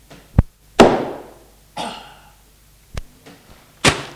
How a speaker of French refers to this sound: Don Francesco lui donne un coup de marteau sur la tête.